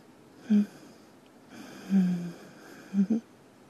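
Soft, slow breaths of a person lying down, with a few brief wheezy exhalations spaced over several seconds, otherwise quiet.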